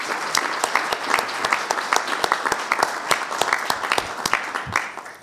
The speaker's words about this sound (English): And although we only had 3 wonderful individuals speak here this morning, let's give a round of applause for everyone who was recognized, faculty and staff.